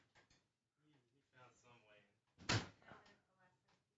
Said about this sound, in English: Oh, I see. Someone opened the door and he came back in.